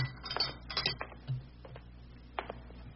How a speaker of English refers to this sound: Now let me go over and put my tea kettle on. Won't take but a little while for my electric hot plate to heat the water.